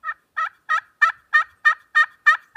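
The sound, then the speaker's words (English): A steady series of nine raspy turkey hen yelps scraped with a striker on a slate call, evenly spaced and fairly loud, with short silent gaps between each note and no voices. “That's an old turkey hen yelp.”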